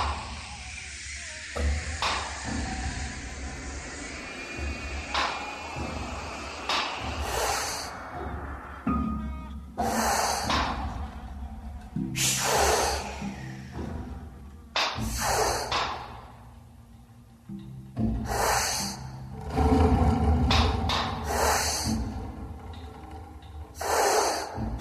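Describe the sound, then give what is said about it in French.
Heavy, repeated breaths and sharp snorts from wolves, a rhythmic series of hissing exhalations with quieter shuffling between them and no talking. “Comme ça, les loups.”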